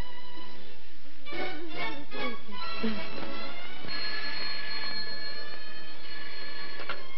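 A telephone rings with bright, repeated trilling bursts, the rings coming in a steady rhythm over faint background hiss, followed by a sustained higher ringing tone near the end.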